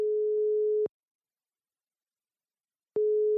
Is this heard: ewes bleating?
no